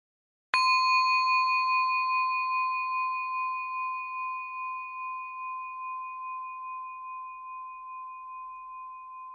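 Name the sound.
bell ringing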